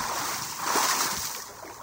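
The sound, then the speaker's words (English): A heavy splash as a spacecraft hits the water of the Gulf of Mexico, heard as a steady rush of churning water that swells midway and then settles, with no voices. “In fact, our USB crack news team was right on site and caught the sound of the spacecraft hitting the water.”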